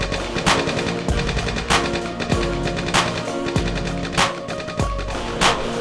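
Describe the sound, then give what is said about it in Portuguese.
A machine gun fires a burst of sharp cracks at a steady, evenly spaced rhythm, about ten loud shots over a droning musical backing with no voices. “A rajada, isso é favela, isso é Nordeste, isso é João Pessoa.”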